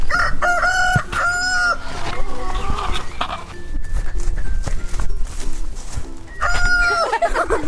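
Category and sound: bird, rooster crowing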